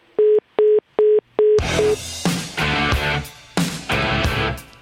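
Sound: phone line tone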